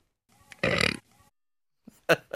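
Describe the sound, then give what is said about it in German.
A dog lets out a loud, drawn-out burp, followed by a couple of shorter, sharper belching grunts after a brief pause. “Ja, so also ein rübsender Hund.”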